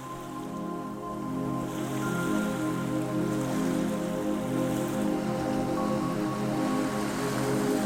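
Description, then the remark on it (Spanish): Soft sea waves a few metres away wash onto a sandy beach beside a campfire in a steady, unbroken hiss with no clear breaks between them, joined by a low, even hum underneath. No one speaks. “El mar, a escasos metros, se oye suave.”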